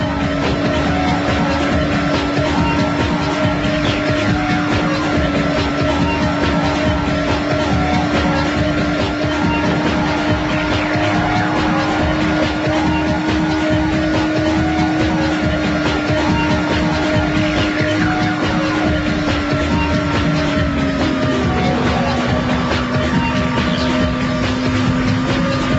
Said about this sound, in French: Et le bruit du moteur, c'est toujours le même, tout le temps. Ça ne change jamais. Ça change d'un bateau à l'autre, mais c'est tout